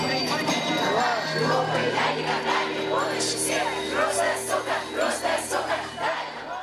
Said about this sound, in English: You can't ban music, the crowd chants at this concert by the Russian band ….